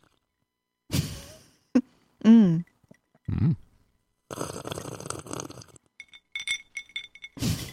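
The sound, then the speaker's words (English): A glass clinks and rattles several times in bright taps, mixed with a brief drinking sip, made as a Foley sip sound, while someone makes short humming sounds of approval. “We could do like a sip sound, like a...”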